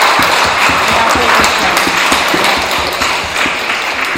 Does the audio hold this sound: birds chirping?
no